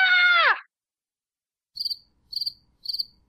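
A loud, high-pitched fangirl squeal held for about half a second before its pitch drops away, followed after a pause by three short, evenly spaced shrill chirps.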